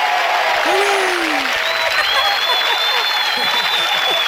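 Steady, loud applause from an audience, a dense wash of clapping that fills the whole stretch, with a few whoops and vocal cheers rising above it.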